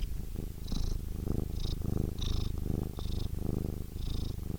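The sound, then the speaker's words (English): Emma Chamberlain's cat Frankie purrs steadily, a deep rumbling vibration pulsing in regular breaths, with soft hissy air on each cycle. No one speaks. “Anyway, here's my cat.”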